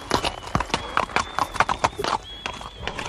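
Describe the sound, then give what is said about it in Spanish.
Steady clip-clop of horse hooves at a brisk riding pace as a merchant rides off with his bag of gold loaded on the horse, fairly loud, with sharp regular hoofbeats and a faint high tone running underneath. “Cargó su bolsa con el oro en su caballo y partió cabalgando.”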